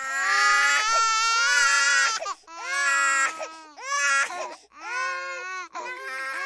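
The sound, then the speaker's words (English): A baby wails loudly and continuously in high-pitched, strained bursts, with brief gasping breaks between about four long cries. “Crying babies are only really bad on planes.”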